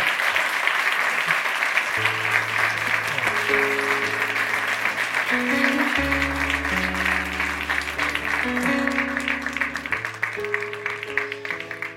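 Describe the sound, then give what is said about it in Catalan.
Loud, steady applause from an audience at an awards gala fills the whole clip, with music playing sustained chords and a low bass line underneath from about two seconds on. “Fora aplaudiments.”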